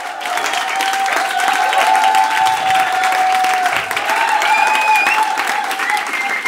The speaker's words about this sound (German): Warum im Olympiastadion auftreten, wenn man im Dussmann-Keller genau den gleichen Applaus erfahren kann?